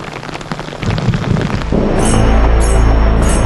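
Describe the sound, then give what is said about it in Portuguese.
Steady rain pours down in the Vale da Serra Branca in a dense, continuous hiss that swells louder partway through, joined by a deep low rumble; no one speaks. “Só conseguimos registrar essas imagens porque nesse dia estava chovendo e os urubus ficam nos abrigos, nos penhascos da serra.”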